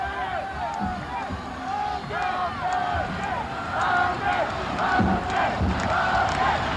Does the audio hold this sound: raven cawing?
no